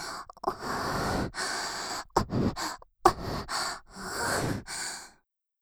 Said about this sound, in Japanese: 吐息も吹きかけてあげる。